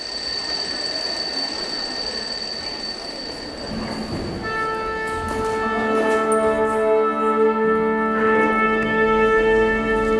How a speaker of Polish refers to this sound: Oho, dzwonek.